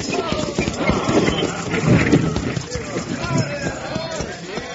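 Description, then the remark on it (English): Galloping hooves of a horse-drawn stagecoach pound along a street in a fast, steady clatter, with rumbling and rattling underneath and a voice faintly mixed in. “Well, if he's on that stage roaring down the street, his big risk has already got a good start.”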